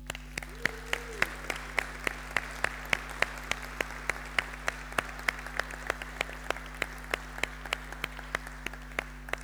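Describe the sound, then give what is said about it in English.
A crowd applauds steadily for volunteers: a dense wash of clapping with sharper individual claps popping through at a fairly even rhythm, sustained for the whole stretch without voices. “Everybody in here, can we give all of those volunteers a massive round of applause?”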